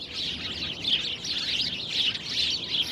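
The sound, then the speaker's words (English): A dense chorus of birds chirping and twittering continuously, bright high-pitched calls overlapping with no pauses, steady, with no voices present. “Over the birds.”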